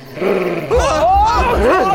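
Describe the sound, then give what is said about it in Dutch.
A fox growls in a loud, rising-and-falling snarl lasting over a second, with rough, throaty wavering tones after a brief quieter lead-in. “Maar de vos begon plots te grommen.”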